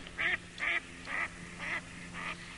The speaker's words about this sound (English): As I skim through the first channels of rock, birds are everywhere, ducks and herons.